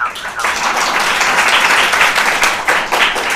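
applause

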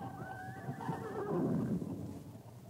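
horse neighing

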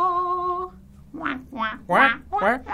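duck quacking

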